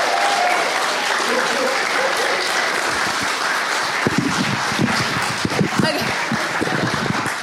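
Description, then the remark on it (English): Sustained applause from a room full of people, dense and steady clapping with a few cheers and whoops rising over it, continuing loudly throughout. “Let's give Sue a round of applause.”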